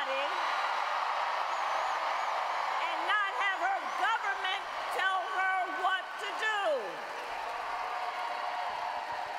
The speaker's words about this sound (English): Sounds like some protesters in the crowd.